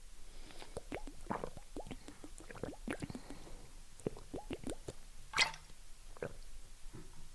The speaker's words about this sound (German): So, trinke jetzt einen Schluck Wasser. Moment. Prost.